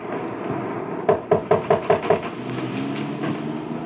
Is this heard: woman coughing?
no